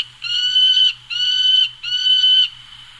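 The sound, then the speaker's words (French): A person imitates a peregrine falcon's call: three shrill, harsh, drawn-out cries in quick, even succession, loud, with a faint low hum in the background and no talking. “Vous pouvez nous faire un petit peu le cri du faucon pèlerin”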